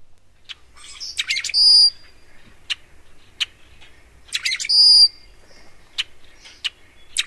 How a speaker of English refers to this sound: We had a clip of a rusty blackbird. I think we're going to go see if we can hear that one now.